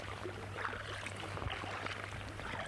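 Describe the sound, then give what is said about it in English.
Paddle strokes dip and splash in water beside a small boat paddled at sea by someone in a dry suit, a few soft sloshing pulses over a steady wash of water and low background hum, moderately quiet. “You just got to stick on the dry suit and paddle.”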